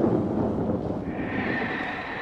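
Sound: thunder rumbling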